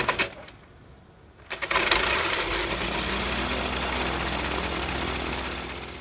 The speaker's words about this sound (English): Recently, Gutierrez and his motorized glider took off from a runway in Canada and turned to the south.